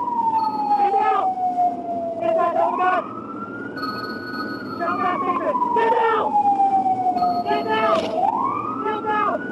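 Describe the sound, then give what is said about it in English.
A police car siren wails loudly and continuously, its pitch sweeping slowly up and down in long rising and falling cycles, with short bursts of rough noise breaking in over it. “Turning off his siren and taking out his baton,”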